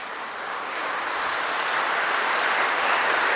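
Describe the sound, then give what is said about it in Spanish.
A crowd claps steadily, a dense wash of many hands that swells slightly and stays loud throughout, with no voices over it. “Un fuerte aplauso.”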